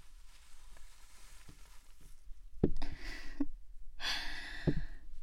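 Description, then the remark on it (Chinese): A person pants like a dog, several heavy, breathy exhalations in uneven bursts, loud and airy, against a faint low background hum. No one speaks. “这喘气的声音还真是跟狗一样呢。”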